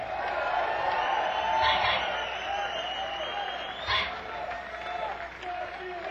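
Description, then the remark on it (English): A crowd applauds and cheers continuously as a bass player from Austin, Texas, is introduced, a dense wash of clapping with scattered shouts that swells briefly twice before settling into a steady roar. “From Austin, Texas, on the bass, let's hear it for”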